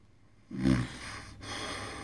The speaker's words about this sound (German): Habt ihr das gehört? Ein Schnarcher. Und noch einer. Jetzt ist ihm die Brille von der Nase gerutscht.